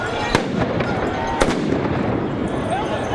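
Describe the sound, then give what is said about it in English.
Two sharp stun grenade blasts, fired by police about a second apart, crack over a constant roar of crowd noise and indistinct voices during clashes between police and demonstrators at a Yellow Vest street protest in Paris, France. “Police responded with tear gas and stun grenades.”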